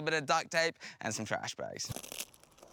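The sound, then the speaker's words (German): A voice talks briefly, then scratchy crinkling of plastic bags mixed with the rasp of tape being torn fills the last second, as someone makes makeshift rubber boots from plastic bags and tape. “Aber wir basteln uns einfach Gummistiefel aus Plastiktüten und Klebeband.”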